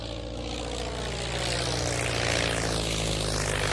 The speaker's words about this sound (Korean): 세 사람은 1928년 7월 17일 캐나다의 뉴펀드랜드에 있는 트레파시 하버 공항을 이륙했습니다.